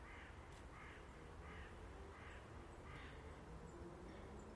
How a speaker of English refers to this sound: But it is very strangely, eerily still and quiet and calm. Apart from a hen blackbird chasing a cock blackbird through the garden.